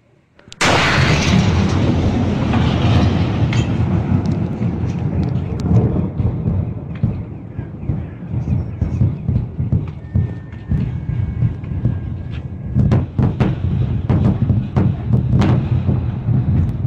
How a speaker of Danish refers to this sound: Jeg håber ikke, der var nogen derude, der fik et alt for stort chok af den eksplosion, der kom i starten. Men det var faktisk en ikke menneskeskabt eksplosion, det her.